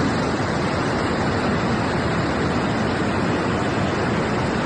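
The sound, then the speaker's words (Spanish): A steady, powerful rush of water released from the full Uidecona reservoir, run by the Júcar Hydrographic Confederation in Spain, as it begins to discharge water. A dense continuous roar stays loud and unchanging throughout with no voices. “Incluso se está empezando a desembalsar agua. Este es el sonido que en estos momentos desprende ese pantano.”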